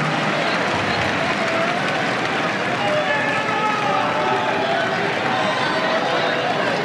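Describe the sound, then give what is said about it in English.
A large tennis crowd at a tournament in France, in hot weather, applauds and cheers steadily for several seconds after a big serve from Matteo Berrettini against Shelton brings the score to thirty all, a dense, loud wash of clapping and shouting with a few high whistles rising above it. “Oh, the crowd.”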